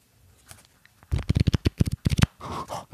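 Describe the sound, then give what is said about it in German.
Thick cardboard trading cards are riffled and shuffled, a quick burst of sharp flicking snaps followed by a softer scraping shuffle, with no talking. “Da klingen aber dann dick, also die sind ein bisschen pappiger, also haben schon dickes Papier, oder? Oder so pappemäßig?”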